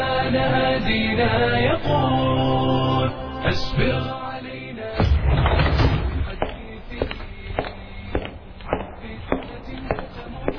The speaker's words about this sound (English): hears the sound of a door opening and then of footsteps coming towards him.